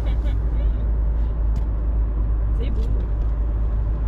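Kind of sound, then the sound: vehicle, car interior driving noise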